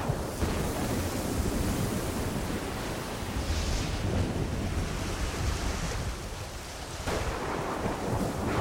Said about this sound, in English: Waves crash on the rocky beach.